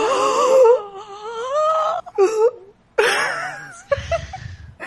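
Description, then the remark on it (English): A person lets out excited, high-pitched squealing vocal sounds with sharp breathy gasps between them, fairly loud, rising and falling over a few seconds. “I just looked over my roommate's dog, like, when I gasped.”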